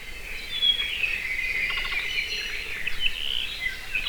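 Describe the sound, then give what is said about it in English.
High, thin chirps and short whistled notes from a rare Hawaiian forest bird, a species heard only in high-elevation koa forests on the Big Island, repeat over a steady, shimmering band of high-pitched buzzing that runs throughout, with no one speaking. “In addition to controlling mosquitoes, planting koa forests would be a great way to increase populations of this very rare and important species.”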